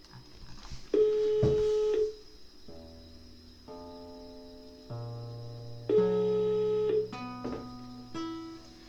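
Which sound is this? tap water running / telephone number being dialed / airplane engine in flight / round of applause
telephone number being dialed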